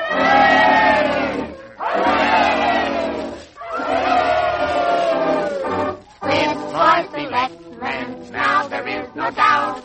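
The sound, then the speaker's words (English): A crowd bellows three loud, drawn-out cheers in unison for the new selectman, the Honorable Kid Squid, each swelling and falling with a brief pause between, followed by a burst of excited overlapping shouts and chatter. “Now, 3 cheers for the new selectman, the Honorable Kid Squid.”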